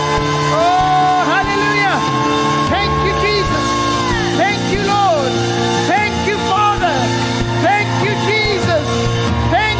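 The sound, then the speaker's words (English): An audience gives the Lord a shout, cheering loudly and continuously as a Feast of Tabernacles service closes, many voices rising in overlapping whoops and yells with rising and falling pitch, a dense wall of jubilant crowd noise throughout. “Now give the Lord a shout like you believe it.”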